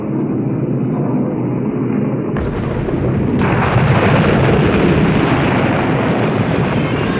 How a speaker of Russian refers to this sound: Из интеркома донесся раздирающий хруст и треск.